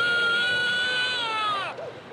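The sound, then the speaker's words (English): A recording of an actual baby crying: a long, loud, steady wail, high-pitched and strained, drops sharply in pitch at the end of the breath before a few faint whimpering sounds follow. “If those cries sound disturbingly real, it's because they're recordings of actual babies crying.”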